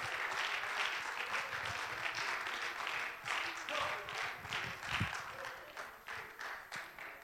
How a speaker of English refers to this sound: Why don't you clap your hands and lift your voice, and the Lord is worthy.